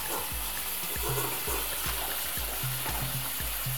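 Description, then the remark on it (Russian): Steady running water splashes from a tap at home with a broad hissing wash, punctuated by repeated low knocks and clunks as a mug is handled and rinsed beneath the stream. “Не получилось у меня записаться по ходу прогулки, и плюс на площадке было шумно, поэтому записываюсь дома, поэтому вы будете слушать, как собака хрустит своей водой, как я мою кружку.”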